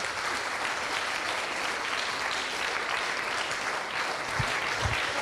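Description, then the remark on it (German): A crowd applauds the Chaos Computer Club's VOC (Video Operation Center) team at a live-streamed event: a dense, even wash of many hands clapping at once that holds at the same loudness for several seconds, with a couple of low thumps near the end. “Auch da mal ein großer Applaus.”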